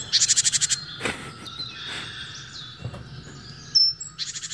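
A tit's alarm call: a rapid burst of about eight sharp, high chirps, then scattered calls and clicks, ending with another quick run of repeated high notes. No one speaks.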